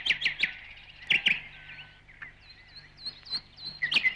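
A nightingale sings alone, mixing sharp repeated chirps and clicking notes with brief high whistles in a varied, lively phrase, heard fairly clearly over a faint low background hum.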